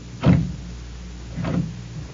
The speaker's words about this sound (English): Okay. Open the door.